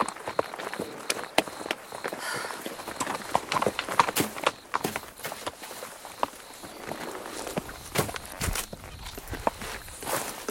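Horses' hooves clip-clop at an irregular pace, several animals moving together, with sharp percussive knocks over a faint rustling background and no voices.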